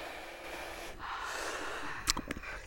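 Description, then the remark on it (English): A long, deep inhalation drawn through the nose, rising steadily over a couple of seconds before ending in a couple of short, sharp sniffs. It is fairly loud, with no talking. “Should we, everyone, take a deep breath.”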